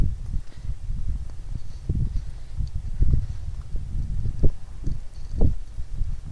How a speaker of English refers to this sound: Okay. Yeah, the wind's definitely much stronger now.